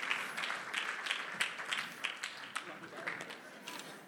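Audience applause, a steady patter of many hands clapping at a moderate level for a few seconds, with faint murmuring mixed in, as a man comes out to play the son.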